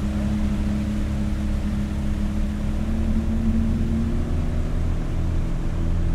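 A motorboat engine drones steadily on a river arm with sandbanks, a continuous low rumbling hum with a faint wash of water noise, unchanging throughout with no voices.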